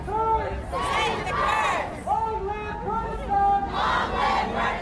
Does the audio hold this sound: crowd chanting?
yes